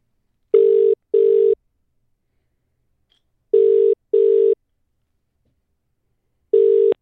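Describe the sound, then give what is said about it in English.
A telephone ringing tone heard down the line: steady, buzzy double pulses repeating about every three seconds with silence between, fairly loud and clear, no voices. “We are joined here, not in the studio, but on the phone by a very special guest.”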